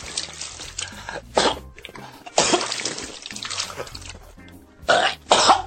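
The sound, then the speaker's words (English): Wet, choking coughs of a man in a Japanese video as a woman vomits into his mouth, coming in several harsh bursts, with a long sputtering stretch in the middle and ragged gasps for air between them; no one speaks. “You can hear him gasping for air and coughing.”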